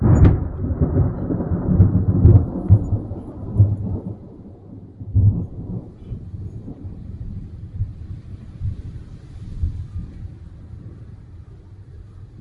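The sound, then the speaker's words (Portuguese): A thunderstorm rumbles with deep, rolling thunder that swells loudly at first, then recedes into a long low grumble, with a steady wash of rain and wind underneath. “Trovões e relâmpagos, gritou Zé.”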